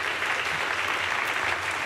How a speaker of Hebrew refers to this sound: טוב, מחיאות כפיים שאתם שומעים